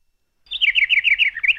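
A bird chirps in a quick run of high, bright notes, about a dozen rapid warbling tweets fairly loud and alone, starting after a brief silence.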